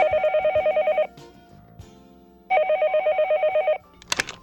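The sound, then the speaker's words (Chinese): A telephone rings in two bursts of rapid warbling trills separated by a short pause, loud, followed by a brief click as if the handset is picked up, as a call is made to a pharmacy's drug consultation hotline. “出现了皮肤痒、上腹痛的状况，打电话到药局的药物咨询专线。”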